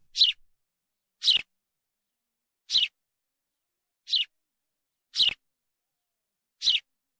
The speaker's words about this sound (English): we used to wake up to the sounds of the house sparrow rather than the mechanical alarm clock, which was a common occurrence.